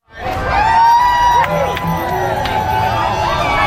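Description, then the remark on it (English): A large crowd cheers and shouts loudly and continuously at Toronto's 45th annual Pride Parade, welcoming the Prime Minister among the marchers, with whoops and high voices rising above a dense wash of outdoor excitement. “The Prime Minister was welcomed with cheers from crowds.”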